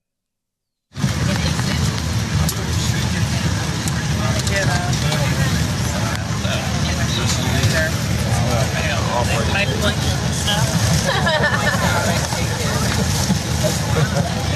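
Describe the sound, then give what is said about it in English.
A steady, loud roar of airplane noise in phone footage of Cam Newton making an offer fills the whole recording after a short silent start, with a deep rumble and hiss that never lets up while muffled voices murmur underneath. “Cam Newton, he's making his offer, but kind of hard to hear over the airplane noise, but that he is offering the guy the money.”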